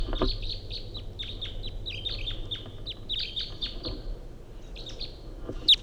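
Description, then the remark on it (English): A wild male bird perched at the top of a small ponderosa pine calls in a quick, repeated series of high, thin chirping notes, steady and fairly clear over a low background rumble, with a louder sharp note at the very end. “recording 806, wild bird coming in.”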